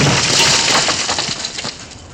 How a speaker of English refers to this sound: I suppose I should start with the sorceress that just smashed through the roof.